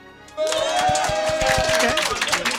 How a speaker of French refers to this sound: Oh putain, bizarrement, il n'y a que 50% qui applaudit. Non mais... Toute cette partie n'applaudit pas.